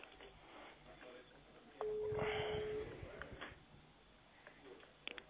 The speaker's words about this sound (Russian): А вот, звонит у меня номер. Здорово.